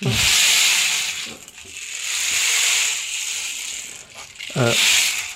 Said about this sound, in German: Ja, es ist eigentlich ein Percussion-Instrument. Das kann man auch kombinieren. Genau. Oh, okay. Klingt wie ein Regenmacher, so ähnlich ist es auch. Ne? Ja. Aber halt flächiger.